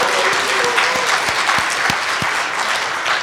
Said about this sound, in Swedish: Ja, en liten applåd va?